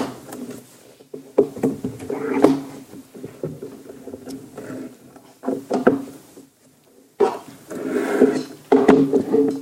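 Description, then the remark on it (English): Chairs being shifted around, with a series of irregular wooden knocks, bumps and scraping drags across the floor, some louder bursts separated by brief quiet pauses. “And I was watching you do that going, if you just moved our names rather than the chairs.”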